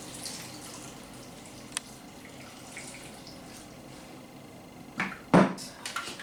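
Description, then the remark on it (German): A short splash of water being poured into a container holding spices and ginger, a bright burst lasting about a second near the end, after a stretch of quiet room noise with a few faint clinks. “Geben wir ein bisschen Wasser dazu.”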